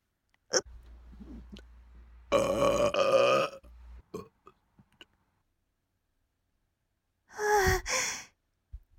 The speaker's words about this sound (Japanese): 食べ過ぎたよ。ああ、出るかも。なんか上がってきてる。出るかな。出る。あ、出そう。出る。出る。出る出る。ゲップ出るよ。